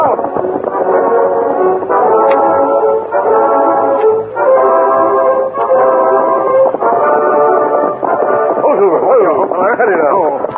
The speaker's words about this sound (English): Listen. Me hear train whistle. Me think it back on this side river. The train from the east.